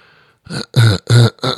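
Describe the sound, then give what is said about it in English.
Someone clears their throat: about four loud, gravelly rasps in quick succession, the middle two strongest, following a faint murmur at the start. “I'm clearing my throat.”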